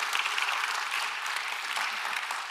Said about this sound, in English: Would you clap for the man of God and the woman of God? And more so, clap for Jesus for what he's done. Amen. Clap for Jesus.